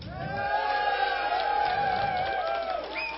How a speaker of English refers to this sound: So we'll do an audience judging. Yeah, it sure does. First for the humor, anti-Oddball, give me a cheer.